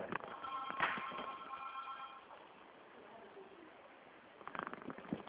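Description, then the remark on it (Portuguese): A telephone rings with a steady, buzzy electronic tone lasting about two seconds, followed by quiet handling noise and a short burst of muffled sound at the end. “É que o É telefone no... tá tocando aqui, só um minutinho, que eu vou ter que Tá.”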